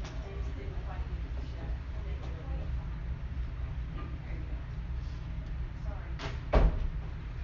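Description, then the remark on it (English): A door swings shut with a single solid thud near the end, preceded by a brief creak, over a steady low room rumble and faint muffled background sounds. “Close the door.”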